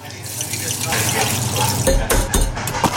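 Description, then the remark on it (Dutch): Crunching of six crispy spicy McDonald's Chicken McNuggets being eaten, with a few sharp, crackly bites in the second half over a steady hissing background. “Je luisterde naar 6 knapperige spicy chicken McNuggets.”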